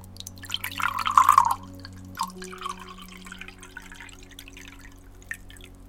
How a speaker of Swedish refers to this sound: Så jag häller upp ett glas till dig här. Så kan du dricka av det när du vill.